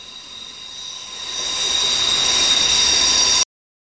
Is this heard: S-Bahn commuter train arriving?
yes